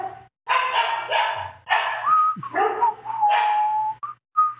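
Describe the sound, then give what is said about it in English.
A dog barks loudly in a rapid, uneven burst of several barks, mixed with high whining yelps, with no one talking. “My dog's going off.”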